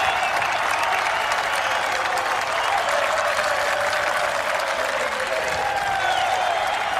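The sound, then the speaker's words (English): A large outdoor golf crowd at Portrush applauds Shane Lowry winning the 148th Open Championship in 2019, steadily and loudly for the full length, a dense wash of clapping with scattered cheers rising faintly near the end. “And he is taking the applause of the crowd, embraced by his caddy, Bo.”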